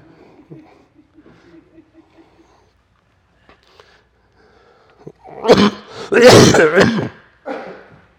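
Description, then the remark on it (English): A speaker giving a talk clears their throat loudly and coughs in a harsh, rasping burst lasting a couple of seconds, after quiet murmuring, with a short final rasp. “I just I do promise that I'm coughing, but there's no I'm free of all germs.”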